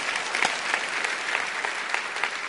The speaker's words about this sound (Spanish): Si Dios le habló, de un aplauso al Señor, que Él se lo merece.